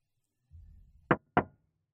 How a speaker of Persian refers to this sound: همون لحظه یکی زد به شیشه. اول فکر کردم اشتباه شنیدم.